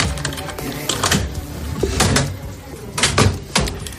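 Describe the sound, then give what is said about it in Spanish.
A small metal locker door at a building entrance clanks and rattles open and shut as a mobile phone is deposited, with several sharp clicks and latch knocks spread over a few seconds, against a faint hum. “Al entrar por la puerta es necesario identificarse, depositar tu teléfono móvil en una taquilla que hay a la entrada.”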